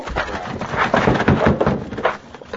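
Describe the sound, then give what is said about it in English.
In a radio drama, a locked wooden door is battered and broken down by someone plowing into it, with several heavy, uneven thuds and splintering crashes in quick succession, loud and without any voices. “It's locked. We'll have to break it down.”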